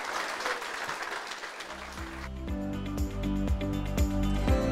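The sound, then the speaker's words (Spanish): An audience breaks into steady, dense applause for the Lord for a couple of seconds, then a loud musical passage with a pulsing beat and sustained tones takes over. No one speaks. “Aplauso para el Señor, démosle a Él la gloria por siempre.”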